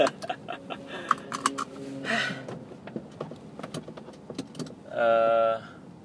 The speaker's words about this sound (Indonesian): Sekarang aku lagi di mobil mau ke Solo dari Jogja.